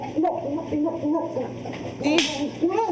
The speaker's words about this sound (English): Oh, with a slap.